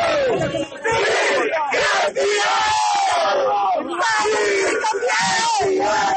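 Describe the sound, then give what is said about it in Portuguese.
The directors of a samba school erupt in loud, jubilant shouting and cheering as a score of 10 comes in from the last judge in the last category, overlapping yells and whoops that carry on continuously for several seconds. “E quando veio nota 10, a diretoria da Acadêmicos do Tatuapé soltou o grito.”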